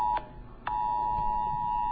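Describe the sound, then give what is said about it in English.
A phone's emergency alert tone blares as a steady, high electronic pitch, cutting out briefly near the start before resuming and holding unbroken and loud. The phone keeps re-sending the alert, and this is another one, at 2:27. No one speaks. “My phone's making noise again.”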